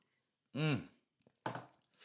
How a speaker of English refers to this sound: Anyway, quick sip of my coffee, which I wouldn't recommend if you are quite anxious, but if you understand how adrenaline works and what caffeine does to you, then you should be okay. It's just all in the mind, but quick sip, hold on.